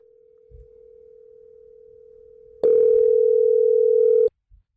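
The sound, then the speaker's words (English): A phone call to a hotel room rings: a steady electronic hum plays quietly, then swells into one loud, sustained ring lasting under two seconds before cutting off abruptly. No one speaks. “It's ringing.”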